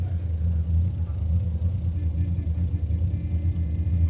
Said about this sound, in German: Stell den Motor ab.